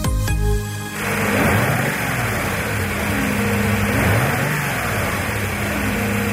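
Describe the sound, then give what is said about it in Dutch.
The V8 engine of a Mercedes SL and SLC-class W107 rumbles steadily after a brief opening tone, with deep low throb and a broad roar, its pitch swelling and easing in a couple of gentle revs. No one speaks. “Dit is de V8 van de Mercedes SL en SLC-klasse, de W107.”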